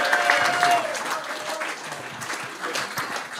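An audience claps steadily for a security guard, a dense patter of many hands that stays fairly loud throughout, with a faint tonal whistle or cheer near the start.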